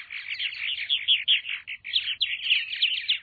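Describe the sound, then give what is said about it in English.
Swallows twitter in a continuous, busy stream of bright, high chirps, fairly loud, with no voices or other sounds around them. “Each spring, 8 species of swallows wing north from the tropics to nest in North America.”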